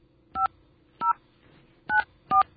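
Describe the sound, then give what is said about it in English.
Four short telephone touch-tone dialing beeps as a call is placed, each a steady dual-pitched tone, sounding in an uneven rhythm with brief quiet gaps between them and a faint low hum underneath. “As you hear, all the tones are going across.”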